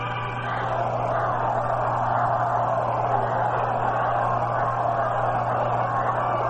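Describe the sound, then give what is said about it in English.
A large crowd at the Polo Grounds ballpark murmurs and stirs in a steady, dense wash of voices while standing for the seventh inning stretch of a Mets game, with no single speaker standing out, over a low constant hum. “Crowd here in the Polo Ground standing up for the seventh inning stretch.”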